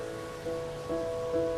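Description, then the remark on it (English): A steady, soft hiss of rain falling continuously as people walk under umbrellas, with a faint sustained tonal hum running underneath and no voices. “People walk under umbrellas in the rain.”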